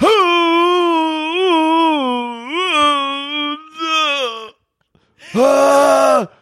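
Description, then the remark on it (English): A voice imitates how someone with throat polyps sounds every morning: a long, wavering guttural moan that rises and dips in pitch for several seconds, breaks off into silence, then returns as a shorter, louder strained groan. “It starts off like a silent scream every morning, and then it slowly becomes like that, just like deep guttural moan.”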